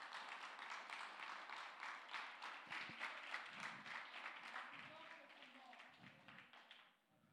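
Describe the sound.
A standing church audience applauds the Lord steadily, a dense wash of many hands clapping that holds at an even level, with faint voices mixed in, then fades out near the end.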